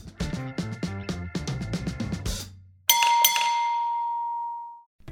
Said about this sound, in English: Ding-a-ling-a-ling, school bell a ring, knife and fork and fife a dumpling.